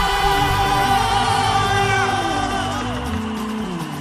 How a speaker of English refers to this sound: If you want to shout for Jesus, let me hear you. Scream!